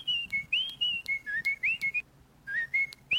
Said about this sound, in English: Do you have the Andy Griffith theme over there? That little whistle thing?